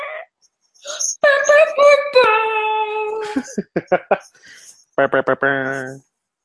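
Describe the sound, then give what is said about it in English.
A dog chews a squeaky toy, letting out loud, high-pitched squeaks: some long and drawn out, others short and quick in irregular bursts, with no talking. “Who gave the dog a squeaky toy?”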